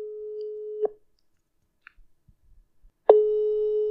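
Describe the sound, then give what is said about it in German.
A telephone ringing tone over a speakerphone: a steady, mid-pitched beep sounds, breaks off into a long silence, then starts again, clear and fairly loud, with no talking. “Pass auf, ich schalte auf laut.”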